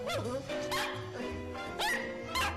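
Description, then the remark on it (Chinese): The small dog Sonya barks in several sharp, yappy bursts spread over a couple of seconds, fairly loud, with a steady tonal hum underneath, while waiting at a shop entrance for its owner. “有一次啊，主人伊万到商店里去买东西，吩咐小狗索尼亚在入口处等他。”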